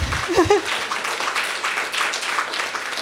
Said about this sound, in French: Barbada. Barbada. Oui, applaudissons Barbada.